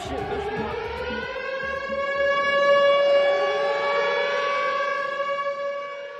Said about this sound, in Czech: We were just about to go to bed when the sirens started wailing, but it scared us.